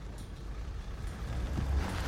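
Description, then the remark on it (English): A car engine rumbles low and steady, growing slightly louder as the car is pulled closer at a dock by the ocean, with no voices over it. “Amber pulls the car closer.”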